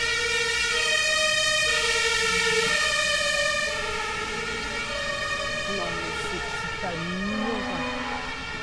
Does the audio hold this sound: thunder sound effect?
no